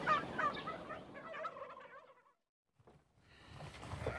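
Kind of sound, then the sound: animal, turkey gobbling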